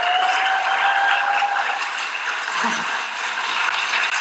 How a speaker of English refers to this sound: Please give a round of applause for Dr. Carol Rosen. Thank you.